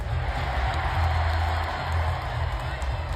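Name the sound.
crowd cheering wildly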